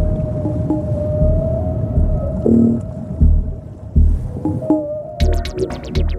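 Whale song recorded underwater with a hydrophone (underwater microphone): low moans and drawn-out tonal calls over a constant deep rumble, ending in a fast burst of pulsing, clicking upsweeps. No voices, just the murky hum of the sea.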